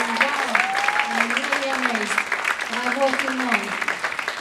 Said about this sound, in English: I think we should applaud everybody that's working. Everybody on the call.